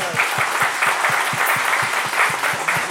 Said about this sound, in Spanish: Un aplauso por ese amor.